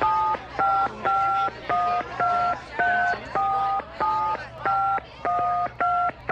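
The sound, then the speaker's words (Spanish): Mobile phone keypad tones beep in a steady rhythm, about a dozen loud dual-pitched presses with short gaps between them, as if a long-distance number is being dialed on a borrowed cell phone. “Eso parece una llamada de larga distancia.”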